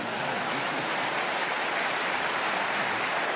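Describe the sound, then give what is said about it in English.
An audience at a meeting applauds, a steady, dense wash of many hands clapping at once that holds at an even level throughout, with no voices heard. “No need to applaud.”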